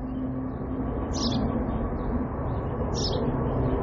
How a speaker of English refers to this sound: I'm going to stop talking, and I want everybody to just listen to the birds around me, okay? And just quiet your mind.